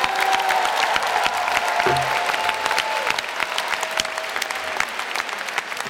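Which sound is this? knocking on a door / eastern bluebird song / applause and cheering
applause and cheering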